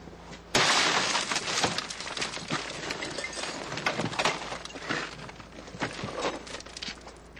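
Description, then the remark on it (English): A car window is smashed during a car break-in (vehicle prowl): a sudden loud crash at the start, followed by several seconds of tinkling, crunching shards of glass falling and scattering, with no one speaking. “Vehicle prowl is when someone breaks into your vehicle and takes your property.”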